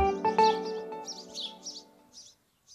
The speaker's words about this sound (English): The chirping of the birds seems out of place in this surreal, man-made landscape of disemboweled homes, burned-out cars, and deep craters.